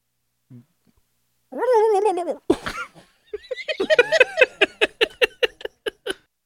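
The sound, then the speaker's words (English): A man's voice imitates a turkey live on a radio show, giving a wavering, warbly gobble followed by a quick run of rapid, choppy vocal bursts that sound partly like laughter. “That's what a turkey.”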